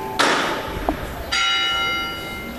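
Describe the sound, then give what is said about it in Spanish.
Two sharp metallic knocks from a procession float's hammer, about a second apart, each leaving a bright ringing tone that lingers and fades. No one speaks. “Aquí se escuchan que es del martillo.”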